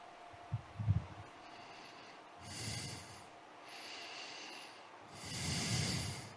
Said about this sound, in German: Schnauf, schnauf, schnauf. Er sitzt nur und schnauft wie eine Lok.